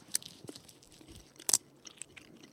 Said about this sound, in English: Okay, here on the count of three, we're all going to take a bite and chew, but not swallow, this sour wood. Let's go. One, two, three.